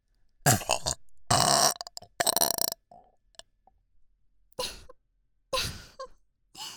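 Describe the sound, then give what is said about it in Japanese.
Five loud burps in quick succession. The first few are long and rumbling, and the later ones are shorter, separated by brief quiet gaps with no talking. “ドスケベゲップ連発しちゃいます。”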